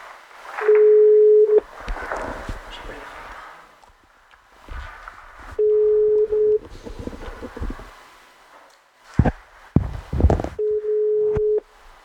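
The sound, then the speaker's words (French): A telephone ringback tone while placing a call to a man from Groupe E for an interview, sounding three times, each steady beep lasting about a second with long pauses between, over faint background noise and a few handling clicks. “Nous allons le joindre par téléphone.”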